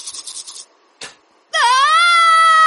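person screaming

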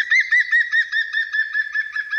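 green woodpecker call

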